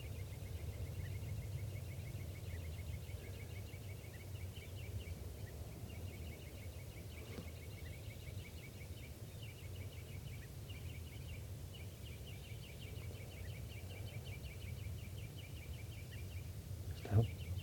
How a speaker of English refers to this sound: Recording, the birds are just perched here for a long time giving alarm calls to each other, and now they're giving chitter notes.